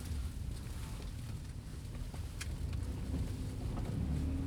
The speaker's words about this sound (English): Keep it recording. Yeah. Yeah, I'm recording the ambience of the car.